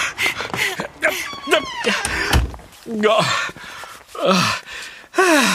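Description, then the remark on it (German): Voices talk over a single dull thud partway through, like a door being pulled shut as people flee into a dark room, with faint movement around it. “Aber ich, da vorne ist eine, siehst du? Mir nach.”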